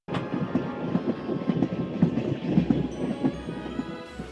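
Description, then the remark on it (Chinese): A train rolls along the tracks with a steady, rhythmic clatter of wheels over rail joints, loud with a low rumble underneath and no voices. The train runs on the railway across the American West, bringing lumber for building houses, firewood and coal to Great Plains settlers. “而且铁路已经贯穿西部，火车运来盖建房屋用的木材以及可以烧火的木柴和煤。”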